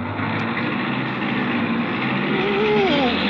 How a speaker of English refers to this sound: The clutch won't move. Of course not. You've got to step on the brake. Step on the brake? To start my car?